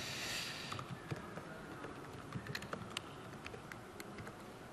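Quick, irregular, soft clicks of fingers tapping on a computer keyboard while signing into the Office 365 admin portal, with a faint hiss at the start and no one speaking.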